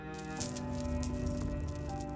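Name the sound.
chain being dragged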